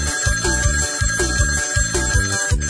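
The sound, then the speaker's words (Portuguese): A telephone bell rings in quick, continuous trills over a bouncy musical backing with a steady bass beat, loud and close, with no voices. “Oh! Mas com cima o telefone, escute!”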